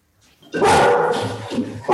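dog barking

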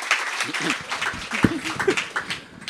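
audience applause

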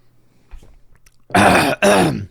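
throat clearing

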